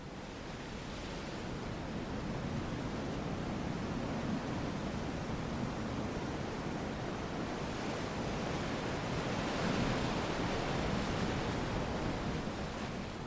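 Steady ocean surf washes on shore with a continuous, broad hiss, swelling slightly now and then, with no voices over it.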